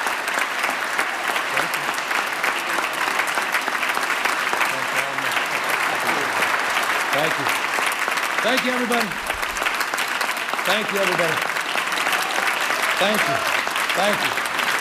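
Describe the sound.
Sustained, loud applause from a large audience fills the whole stretch as a dense wash of clapping, with a few cheers and voices calling out over it, as California Governor Gavin Newsom is introduced and takes the stage.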